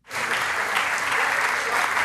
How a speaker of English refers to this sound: Yep, those are scientists at the European Space Operations Center in Darmstadt, Germany. They're clapping because their spacecraft just crash-landed, as planned, onto a comet.